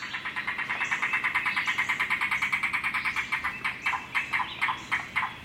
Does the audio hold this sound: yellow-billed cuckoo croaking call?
yes